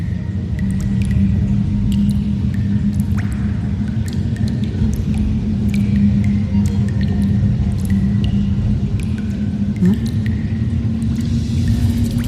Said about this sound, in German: Das ist ein ganz leichtes Plätschern. Also nicht, als wäre es viel Wasser, sondern